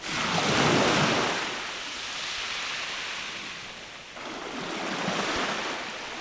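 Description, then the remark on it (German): Ocean surf rolls in continuously, broad whooshing waves swelling and receding in slow surges, with a breezy rush over the microphone and no voices. “Genau, am Meer.”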